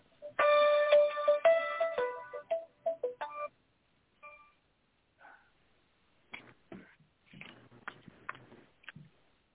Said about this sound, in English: You got a phone ringing in the background.